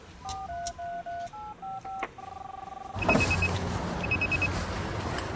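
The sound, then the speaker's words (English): A rapid run of about nine cell phone keypad dialing tones, crisp, each beep short and evenly paced, ending in a longer held tone before a burst of steady hiss takes over. “Craig pulls out his cell phone.”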